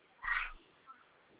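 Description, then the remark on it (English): A single short sneeze bursts out over a muffled, phone-quality line, then fades to quiet background hiss with no talking. “Bless you.”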